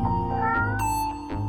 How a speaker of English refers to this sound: A nice kitty. Except when he bites.